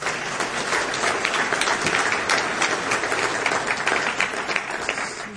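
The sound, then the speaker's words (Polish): An audience at a congress applauds steadily for the administrative staff who organized it, a dense wash of many hands clapping at an even, loud level with no pauses and no talking over it. “Jest ich sporo, ale oklaski dla wszystkich tak samo gorące.”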